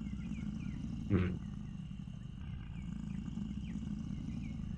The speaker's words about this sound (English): Does the rolling of the rocks sound like a name? Nope. Just a low rumble at this point.